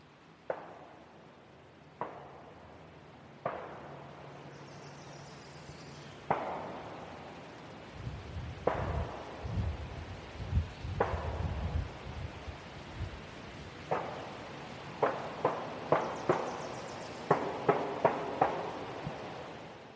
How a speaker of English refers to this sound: So I stayed with the car and I was hearing the gunfire go off. I tried to record some of it. This is some of what I heard from the car.